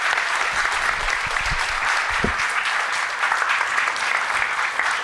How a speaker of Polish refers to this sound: To są brawa dla żyjącej uczestniczki Powstania Warszawskiego.